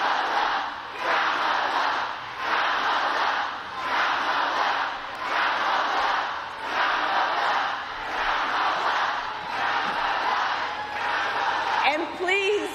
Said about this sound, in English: Now the crowd tries to shout down the protesters, and Harris is smiling.